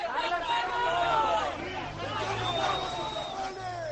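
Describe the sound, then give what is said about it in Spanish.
About 50 Levante supporters in the parking lot of the Estadio Ciutat de València chant and shout "¡Mercenario!" and "¡Jugadores!" as the team's two coaches arrive from Villarreal, some hitting the bus. Many raised voices overlap in a loud, steady roar, with a low engine rumble underneath. “Es el sonido en directo de la llegada de los dos autocares desde Villarreal.”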